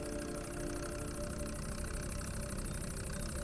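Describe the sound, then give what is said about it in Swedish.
A heavy diesel tractor engine idles steadily with a low, rumbling chug and rattling vibration, loud, continuing without pause and with no voices. “Jag var ju fullständigt livrädd när vi gav oss iväg i traktorn.”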